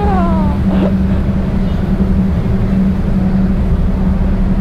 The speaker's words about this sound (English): So you're hearing the engine more from down here because I guess the engine is closer down here.